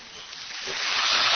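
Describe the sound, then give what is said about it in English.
A crowd of soldiers in Kuwait breaks into applause for a soldier's question put to the Secretary, a dense, hissy wash of many hands clapping that swells steadily louder over the short stretch. “Those are soldiers applauding the question.”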